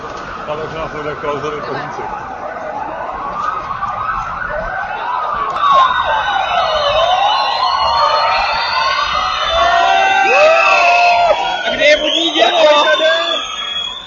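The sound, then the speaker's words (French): Several police sirens wail together, their rising and falling tones overlapping, over a steady murmur of crowd noise and indistinct voices throughout. “et quand d'ailleurs des sirènes de police ont sonné, la foule a parfois réagi tout aussi symboliquement qu'avec humour par quelques huées.”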